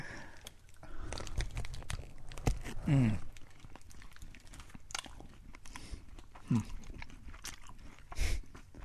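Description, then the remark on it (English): Steady crunchy chewing of a very hard, thick candy full of nuts, with repeated gritty crunches and a few louder bites standing out over the continuous mastication, no talking. “Do you think it's supposed to be that hard, or do you think that's like a looks like it looks like cow manure.”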